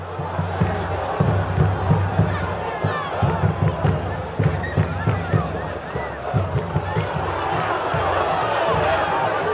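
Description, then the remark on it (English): A dense crowd of passionate sports fans in a stadium yelling, chanting and singing together, with a steady pounding rhythm from huge 10-foot drums thumping underneath the roar throughout. “They are out of their minds, singing in huge 10-foot drums.”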